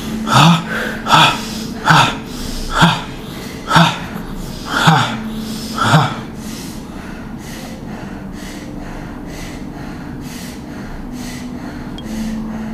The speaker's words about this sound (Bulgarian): Направи сега няколко дълбоки вдишване и издишване тип бастрика дишане. Няколко, давай.